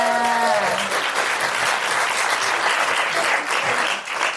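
Sustained crowd applause, dense and steady, with a brief raised voice at the very start before the clapping fills the whole stretch at an even, loud level.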